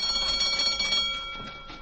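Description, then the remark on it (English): A doorbell of a house is pressed and rings in one continuous electric jangle with bright, steady metallic tones. It holds for about two seconds and eases slightly toward the end, with no voices. “I'll press this doorbell.”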